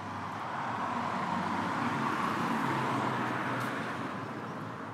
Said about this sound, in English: Oh, I can hear the cars. That's the biggest sound you have. We can hear the cars zooming by, so it's a really progressive zoom that's going crescendo, as they say. Almost like it's in the tunnel. Sort of echoey.